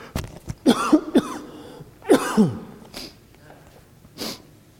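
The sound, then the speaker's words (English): A loud coughing fit from a speaker at a microphone: several harsh, raspy coughs come in irregular bursts over a few seconds, with rough throaty breaths between them and a softer final cough. “A cough is coming.”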